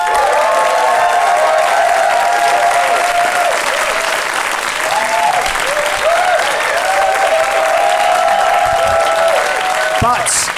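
Sustained applause from a large live audience at the Pleasance, clapping to vote for one side in a show, steady and loud throughout, with scattered cheers and whoops rising above the dense clapping.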